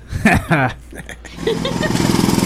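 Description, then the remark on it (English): After a short burst of voice, someone imitates a jackhammer with a rapid, rattling mouth buzz that pulses steadily and grows louder, forceful until the end. “Hi Jackhammer.”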